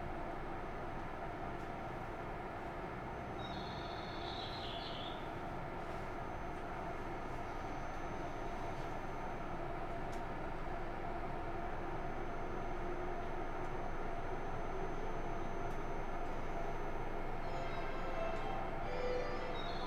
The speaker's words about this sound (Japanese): お待たせいたしました。この電車は間もなく発車いたします。